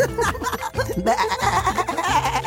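A goat bleats loudly and close by, its shaky, quavering cries running together in a continuous wavering stretch with no talking.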